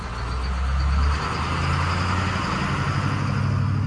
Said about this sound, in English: 2 hours later, this old yellow school bus with about 50 workers on board arrives at a chili field near Hatch.